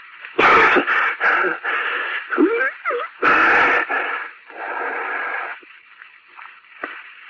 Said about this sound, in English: Hey, mister, you all right? Cough up his head.